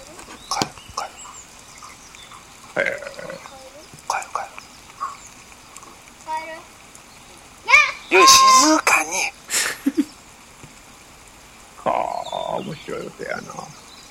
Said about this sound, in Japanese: 鳥の音ですけどね。 まあな。 ちょっと一瞬聞こえたかな。 なんか咳込んでるみたいな声やった。